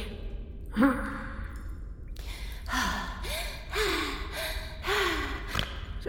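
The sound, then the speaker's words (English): A voice does exaggerated, flirty 'sexy breathing', heavy and theatrical, with a rhythmic series of loud, breathy inhales and exhales, some voiced like drawn-out sighs. “What are you doing? Sexy breathing.”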